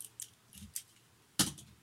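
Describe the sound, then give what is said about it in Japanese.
Metal handcuffs with a keyhole being handled, a few light metallic clicks and jingles followed by a louder rattling clatter near the end, with no one speaking. “なんかね、手錠鍵穴みたいのあるんですけどね、鍵穴、意味ないかも。”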